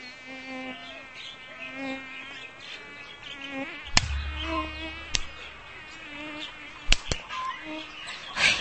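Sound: mosquitoes buzzing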